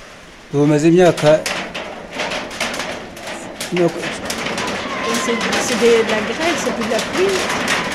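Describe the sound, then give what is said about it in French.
Hail falling, a dense, irregular patter of sharp ticks and taps striking hard surfaces continuously throughout, with a brief voice or murmur rising over it now and then. “C'est de la grêle, c'est plus de la pluie.”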